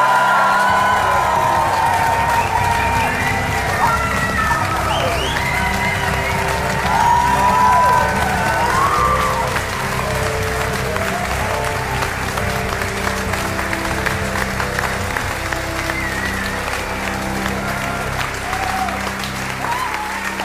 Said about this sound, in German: Einen riesigen Applaus an uns alle.